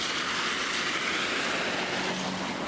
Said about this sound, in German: Ah, noch ein Auto.